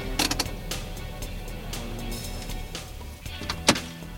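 A yellow Volkswagen Beetle idles with a low, steady rumble as it stops on the driveway of a city theatre. Several sharp door clunks and thumps sound, spaced irregularly, with one louder slam near the end as three people get out.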